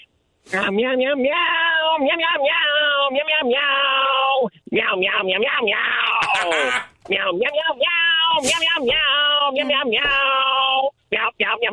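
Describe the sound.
A person sings a rock melody using only meows, a long run of loud, strongly pitched notes with a couple of brief pauses, the voice imitating a cat throughout.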